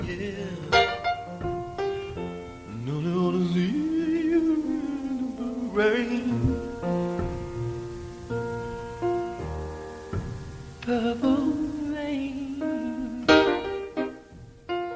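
A sparse, stripped-down early-stage song demo recorded in the songwriter's house: a lone voice sings sustained, sliding melodic lines over simple held chords, with nothing else in the mix, giving a raw, unpolished home-recording feel.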